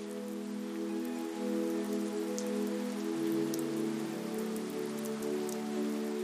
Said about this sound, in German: Um dich herum ist die Straße still. Nur das leise Trommeln der Regentropfen begleitet dich. während du langsam und bewusst deine Schritte fortsetzt.